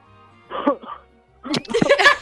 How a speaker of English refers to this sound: That was a very manly smoker's cough right there.